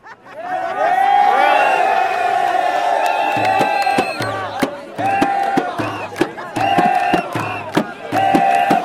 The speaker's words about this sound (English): Suddenly this massive roar went up over the square and people started jumping up and down saying, he's gone, he's gone.